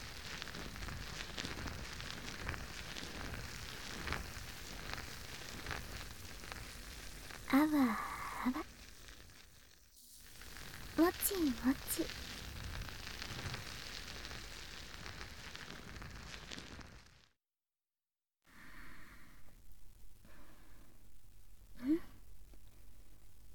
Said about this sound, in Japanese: こうやってしっかりボッチャマのお耳をマッサージしても中に泡が流れ込んでいかないですし、すごくいいですよね。しばらくはこちらのソープを愛用することにしましょう。もちもちの泡でたっぷりお耳を包んで、